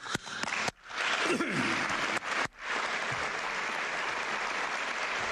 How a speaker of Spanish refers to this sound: Un aplauso para los tres que lo están pasando ahora mal, especialmente Militao y Courtois.